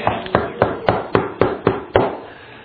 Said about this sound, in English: The old door knock.